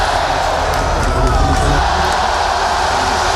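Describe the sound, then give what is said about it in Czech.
A large crowd of biathlon fans cheers continuously at a championship in Vysočina, Czech Republic, in spring-like February weather around 15 °C: a dense roar of many voices with scattered whoops and shouts rising above it, steady and loud throughout. “Češi tak sbírali pochvaly aspoň na jiných frontách. Opět fanoušci za kulisu.”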